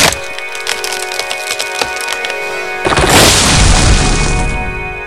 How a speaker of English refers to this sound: I hit it! I really hit it! Holy cow! You turned that tree into toothpicks.